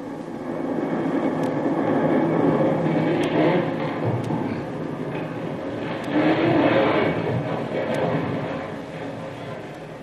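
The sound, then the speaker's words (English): A deep, sustained rumble with a roaring, noisy texture rolls on for about ten seconds, swelling slightly midway, the lingering reverberations of a tremendous explosion that blows up a castle. A few faint clicks sit on top. “Just as Jungle Jim reports back to the camp of Captain Swain, who is in command of the landing force of Marines, the very earth trembles with the force of a tremendous explosion whose reverberations can still be heard.”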